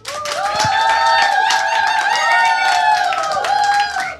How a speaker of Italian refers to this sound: Buonasera, buonasera al pubblico a casa, ascoltatrici, ascoltatori del suggeritore Night Live, al pubblico in studio che si fa come sempre un applauso apotropaico dati i tempi brutti.